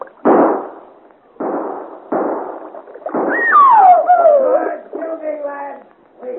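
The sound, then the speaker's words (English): Four sharp musket shots crack out at uneven intervals, the last followed by a high, wavering whine that slides downward and fades under a lingering rumble. “And with muskets against you?”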